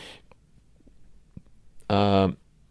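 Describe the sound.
A single loud burp lasting under half a second, deep and voiced with a resonant, croaky tone, following a stretch of quiet breathing and faint mouth clicks.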